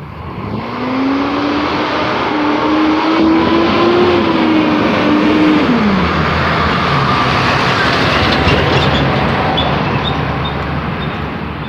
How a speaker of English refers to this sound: If that truck sounds familiar, it should. It's the one that drove by at the beginning.